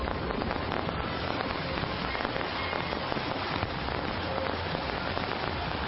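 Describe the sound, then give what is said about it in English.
Dense, continuous crackling of Fourth of July fireworks, a steady fizzing patter of countless small pops at an even loudness with no single large bangs, and no voices. “Today, fourth brought the usual fireworks.”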